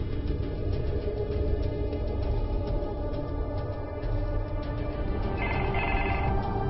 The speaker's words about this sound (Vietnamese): Có tiếng chuông điện thoại, đó là dịch vụ trả lời tự động của ông.